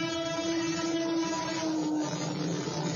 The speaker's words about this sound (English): I think I hear the train. Oh, no.